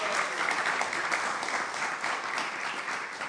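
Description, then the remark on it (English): An audience applauds Guru Prasad Maharaj, who is leaving that morning, giving him a big round of applause; a dense wash of many hands clapping at an even, sustained loudness with no talking over it. “And I think that Guru Prasad Maharaj is leaving this morning, so let's just give him a big round of applause and thank him for all his association.”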